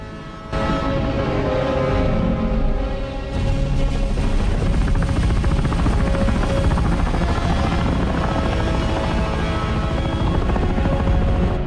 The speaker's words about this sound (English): The chopper carrying Fowler comes to land near the presidential aircraft that's being prepped for takeoff.